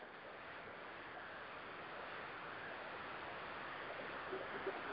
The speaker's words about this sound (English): yeah, it's raining pretty regular now. We're supposed to get 2 inches of rain.